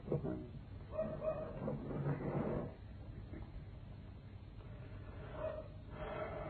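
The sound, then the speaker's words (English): A dog barks intensely in repeated, insistent bursts, with a flurry early on, a brief lull, then more barking near the end. The sound is muffled. “I've never known what to go on barking so intensely.”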